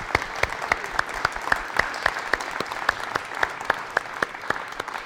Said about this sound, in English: I am just so proud of the children and the children's ministry, and they just did a phenomenal job. I'm like tearing up watching this thing going on up here in front. So give them a good another round of applause. Good job, guys.